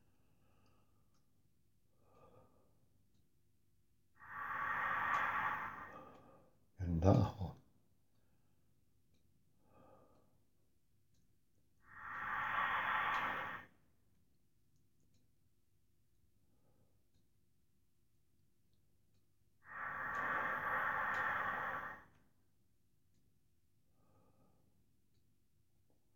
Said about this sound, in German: Ganz tief in den Bauch hinein und dann hoch in den Brustkorb atmen.